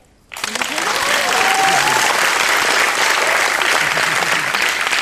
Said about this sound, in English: I heard someone clap and I thought, okay, that might be a good time. That wasn't the plan.